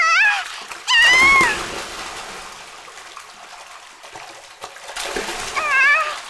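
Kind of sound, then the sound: animal, kitten meowing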